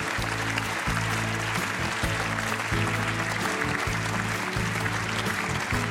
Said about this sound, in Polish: W tym roku Orzeł wędruje do niego za główną rolę męską w filmie Kler. Wielkie brawa, Jacek Braciak.